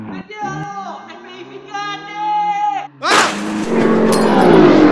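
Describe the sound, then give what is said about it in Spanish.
A race car engine revs loudly, its whine sliding up and down through gear changes, then a sudden harsh burst of rushing noise overwhelms it. “Nos vemos a la noche, te dejo que estoy manejando.”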